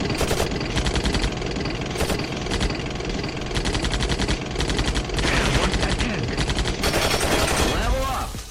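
Dense bursts of rapid video game gunfire rattle nonstop, broken by heavy booming explosions, with a rising whooshing sweep near the end and a voice faintly mixed in.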